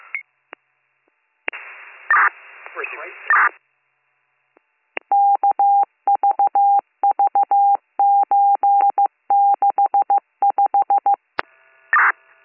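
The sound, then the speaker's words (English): Rapid bursts of touch-tone dialing beeps in quick rhythmic groups as a 911 dispatcher places a callback to the caller's line, heard clearly over a phone line, with brief muffled line noise and static before and after. “On a call back to the line, pick the next again.”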